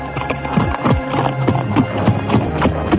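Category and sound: animal, horse hooves clip-clopping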